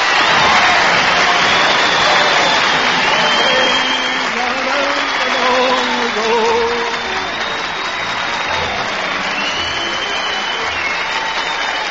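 A large audience at a talent contest claps steadily for about twelve seconds, measured by an applause meter to pick the grand prize winner, a dense, even wash of applause with faint whoops and cheers rising through it, holding strong before easing slightly near the end.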